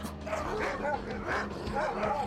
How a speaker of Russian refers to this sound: Собаки?